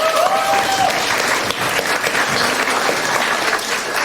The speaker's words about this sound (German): Von daher einen großen Applaus an die Gruppe Webseitenaktualisierung.